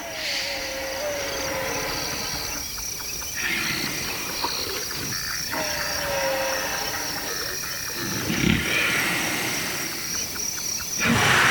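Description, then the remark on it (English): Sleeping elephants in Kenya's Maasai Mara Park snore in slow, deep, rumbling breaths every few seconds, set against a steady chorus of crickets and insects in an open outdoor night setting. “Some even snore while snoozing near bystanders. Chris Watson caught these catnapping elephants in Kenya's Maasai Mara Park.”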